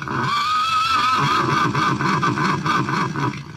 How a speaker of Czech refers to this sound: Sa kim se to razigrala matematika? Sa psom? Ne, sa konjem koji se smeje?